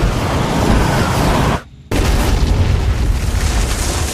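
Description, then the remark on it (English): A thunderous, roaring explosion of a crashing spaceship, dense and rumbling across the full range, briefly cuts out to near silence before the heavy crash noise surges back and continues. “His limp body jolts with the crashing ship.”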